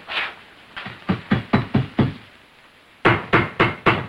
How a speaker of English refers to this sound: Dragging it out, he knocks on the rectangular patch, then on the floor beside it.